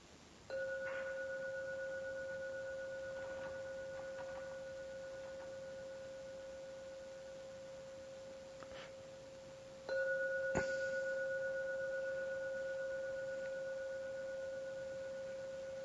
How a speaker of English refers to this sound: I'm now going to ring the gong 3 times to end the meditation. Please listen to every sound from the gong. When the last sound vanishes, after the 3rd ringing, come out from your meditation.